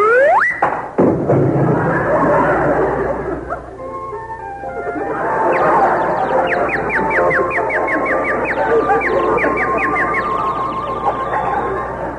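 A single sharp punch thud, a punch knocking someone out, lands near the start, then a dizzy, swirling musical sting takes over, full of quick rising chirps and repeated twinkling notes. No one speaks.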